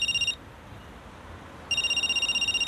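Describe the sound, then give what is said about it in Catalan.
A phone rings for an incoming call: a bright, high electronic trill in two bursts, a short one and then a longer one after a pause of about a second. No voices. “Reps una trucada.”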